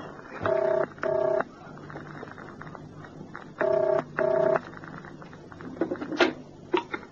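A telephone rings in two double bursts, loud, with a pause between pairs, as a call is placed to a flat, then a few soft clicks and rustles as the line seems to pick up. No one speaks.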